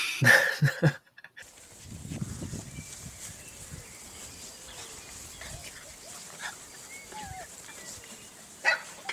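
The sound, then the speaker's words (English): Puppies yip and bark in a loud burst at the start, then break into soft grunts and thin, high whimpers that keep squeaking on and off, with one sharper yelp near the end. “Should I put in I don't know, video of puppies in the middle of this?”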